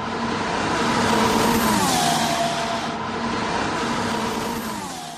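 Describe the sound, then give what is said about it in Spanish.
A high-pitched Formula 1 car engine roars steadily, its tone sweeping up and down as it revs, loud and unbroken with no voices over it. “Qué bien suena el coche, ¿eh?”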